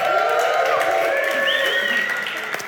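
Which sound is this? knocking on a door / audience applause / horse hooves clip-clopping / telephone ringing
audience applause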